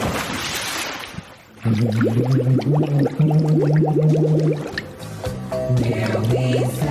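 A muffled, warbling voice sings a melody underwater, the tune bubbling and distorted amid gurgling water and splashes, starting after a brief rush of noise.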